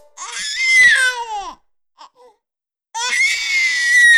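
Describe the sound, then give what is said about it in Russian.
A newborn baby cries out in two loud, piercing wails, the first rising then falling off, a short pause with a faint whimper, then a second sustained wail. “И закричал я”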